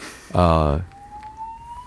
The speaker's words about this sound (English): Fire alarm? I think so. Let's wait for that. Is it a real fire?